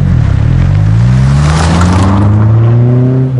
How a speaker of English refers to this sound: Then the car roared off.